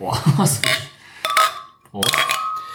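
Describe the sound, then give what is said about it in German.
Glasses clink together in a toast among a group, a few bright knocks whose ringing tones hang briefly, with a clattery jumble of contact at the start. “Und während ich mal Prost in die Runde sage.”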